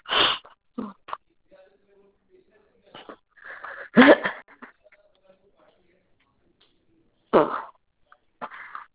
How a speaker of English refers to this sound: So I have a nasty cough right there in my throat.